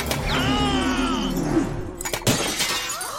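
A mirror shatters with a sharp crash, followed by a lingering, ringing tinkle of glass pieces and a couple of further sharp cracks, fairly loud.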